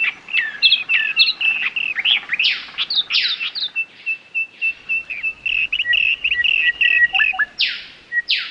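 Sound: bird song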